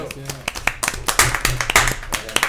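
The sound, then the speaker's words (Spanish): A small group applauds with brisk, uneven hand claps that build and keep going for a couple of seconds, while voices murmur faintly underneath. “Un aplauso a todos.”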